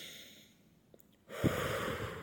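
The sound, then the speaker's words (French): A short quiet pause, then an airy breath drawn in steadily and held for about a second, soft but clearly audible, as part of a guided breathing meditation. No one speaks. “Inspire.”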